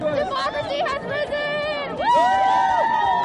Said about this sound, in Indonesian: Dari pantai timur ke barat, rakyat Amerika bersorak-sorai merayakan kemenangan Joe Biden pada Sabtu.